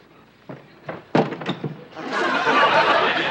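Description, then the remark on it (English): A good, solid wooden door is deliberately broken down: it is battered with a few heavy, uneven thuds, the blows growing louder until it gives way in a sustained crash of splintering, clattering wood. “Well, I'll have to break down the door. Stand back, Jess, because the wood is going to fly.”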